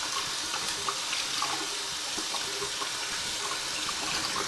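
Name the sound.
water running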